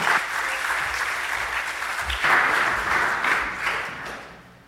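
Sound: audience round of applause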